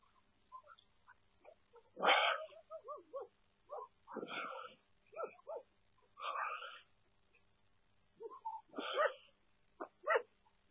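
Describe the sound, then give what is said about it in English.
A dog barks in scattered bursts, several sharp barks spaced a second or two apart, moderately loud, with quieter yips and whines between them. “Do it, dog.”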